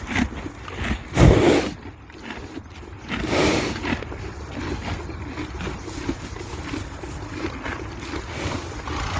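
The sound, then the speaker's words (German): A horse eating: steady, crunchy chewing and grinding that continues throughout, with a couple of louder crunching bursts early on, and no voices. “wie es frisst.”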